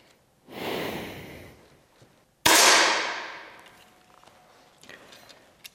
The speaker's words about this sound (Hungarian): És ez már majdnem egy tökéletes lövés.